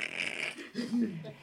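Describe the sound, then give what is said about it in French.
Someone imitates with their voice the crunching of dry leaves in the woods at Tervuren: a scratchy breath-hiss followed by a short, low throaty rasp, all within about a second and a half. “Et les feuilles qui craquent à cette époque-ci de l'année, tu sais?”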